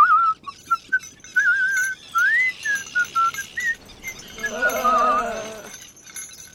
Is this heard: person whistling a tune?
yes